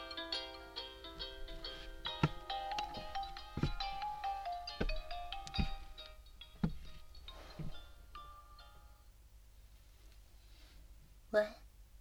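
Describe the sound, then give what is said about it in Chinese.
A melodic mobile phone ringtone for an incoming call plays for about six seconds, bright and fairly loud, then cuts off, followed by a few soft clicks and faint rustling. “哦，我接个电话，你等我一下哦。”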